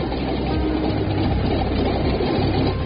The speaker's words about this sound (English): Comes engine three. It starts, no problem.